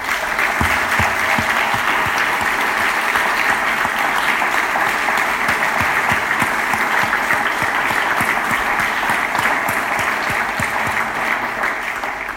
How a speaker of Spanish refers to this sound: Y permitirme que, además de dar las gracias a todos y cada uno de los que hoy habéis sido homenajeados, le dediquemos un aplauso muy cálido a todos aquellos que os acompañaron, pero que hoy ya no están con nosotros.